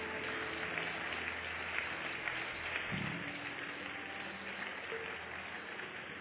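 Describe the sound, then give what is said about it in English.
A crowd claps steadily and continuously to honor people as they leave following counselors, a dense, even wash of applause that neither builds nor fades, with no voices standing out above it. “Please keep clapping until they go.”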